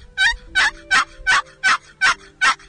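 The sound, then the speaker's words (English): Seven slow, evenly spaced gobbler yelps played on a wooden turkey box call by bringing the lid across the call, each note raspy and drawn out, loud with no talking. “to kill fall gobblers, you need to learn to gobbler yelp. We'll do the first one on the box calls.”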